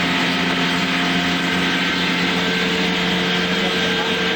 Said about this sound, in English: No, actually there's a waterfall down there. Big waterfall.